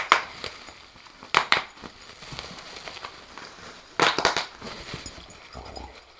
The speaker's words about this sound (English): He barks at it, kind of throws it up in the air and bites all the bubbles. He loves it. I've never seen a dog that will play with bubble wrap like this guy.